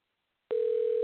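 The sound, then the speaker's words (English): A steady, unbroken telephone dial tone as a radio host places a call live on air. It starts abruptly after half a second of silence and holds at an even, moderately loud level with no talking. “I'm going to make another call.”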